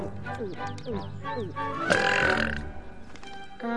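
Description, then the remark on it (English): Several loud, drawn-out burps in a row, with a long croaking belch rising in the middle, over a busy background of voices and music; the burping comes after drinking a purple florp drink. “Drink your purple florp and commence burping.”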